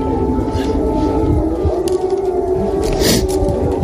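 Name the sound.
air raid siren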